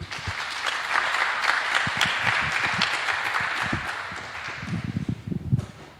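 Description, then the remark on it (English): An audience applauds steadily for a speaker after his talk and question session, a dense wash of many hands clapping together that fills the room, thinning slightly toward the end as a few louder claps stand out. “Okay, well, again, a big applause.”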